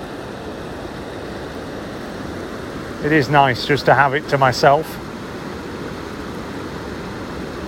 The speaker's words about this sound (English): I was going to say it's quite peaceful, but there's the roar of the weir, so that's not quite right, is it?